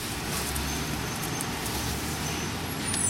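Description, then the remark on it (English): Steady low rumble of idling and slow-moving vehicles in a traffic jam on 58th Street, heading east, with bus engines and a faint hiss of air brakes, continuous, no talking. “We're in a traffic jam, not unusual this time of year.”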